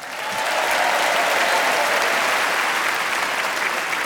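A burst of audience applause, steady dense clapping from many hands that rises quickly and holds at an even, loud level for about four seconds with no talking.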